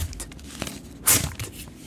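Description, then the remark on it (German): A quick ripping rasp made by hands as a trick to mimic paper being torn, though no paper is actually torn: one sharp burst midway, with softer rustling and scraping before and after, and no talking. “Also es klingt wie ein Papier zerreissen, aber ich zerreisse es nicht.”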